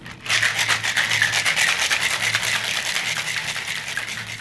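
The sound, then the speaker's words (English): A cocktail shaker holding egg whites is given a long, hard shake with ice for about four seconds, a loud, steady, rapid rattle of ice clattering inside metal, with no voices. “So ice. This one needs a really good long shake.”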